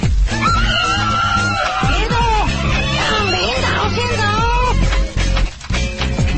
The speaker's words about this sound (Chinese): 兔妈妈悲动地跑到建构和谐森林的集会上想讨个公道，却发生火灾，台上的老虎松容不迫地离去，台下无路可逃的兔妈妈只能够在火场内悲声尖叫。